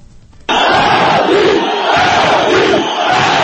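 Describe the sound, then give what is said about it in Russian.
A large crowd shouts a protest demand in unison on central Rustaveli Avenue in Tbilisi, Georgia, during the 2003 revolution, a loud, steady roar of many voices that bursts in after a brief quiet start and holds at full volume throughout. “Это требование скандировали в течение нескольких недель на центральном проспекте Руставели 6 лет назад.”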